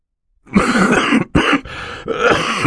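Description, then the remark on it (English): A man's muffled coughing fit of three or four harsh bursts in quick succession, coughing into a white handkerchief, with no talking. “Mr. Poe said, coughing into a white handkerchief”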